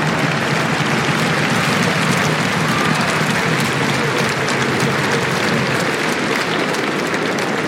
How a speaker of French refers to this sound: Vous pouvez l'applaudir, mesdames et messieurs.